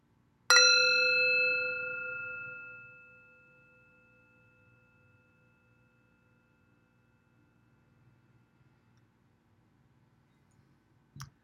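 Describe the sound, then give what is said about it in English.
A single strike on a metal gong rings out clearly, its bright, shimmering tones sustaining and slowly fading over several seconds into silence, followed by a faint click at the very end. “So here's the gong on metal.”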